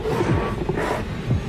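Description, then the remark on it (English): A low, growling roar of a zombie deer in a video game rumbles steadily for a moment, loud, with a rough guttural texture and a couple of swelling snarls. “Oh, zombie deer. There are zombies.”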